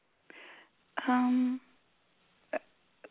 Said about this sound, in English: I've got hiccups.